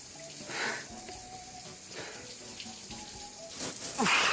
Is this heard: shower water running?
yes